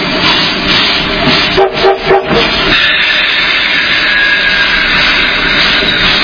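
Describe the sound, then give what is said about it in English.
Three quick, close-spaced train whistle blasts, signalling that the train is going backwards, cut through a steady, loud rumbling roar, then the heavy mechanical noise carries on alone. “The three short things say they're going backwards.”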